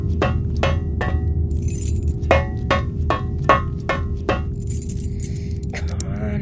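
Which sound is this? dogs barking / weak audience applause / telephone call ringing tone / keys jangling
keys jangling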